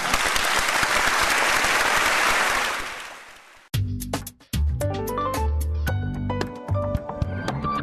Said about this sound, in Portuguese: Até lá, é a vez da Alemanha receber com aplausos estes artistas.